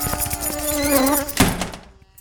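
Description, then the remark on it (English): A dense swarm of razor moths, released under riot protocols, buzzes in a wavering, droning hum, fairly loud, then a dull thud hits just before the buzzing tapers off and fades away. “Razor moths released.”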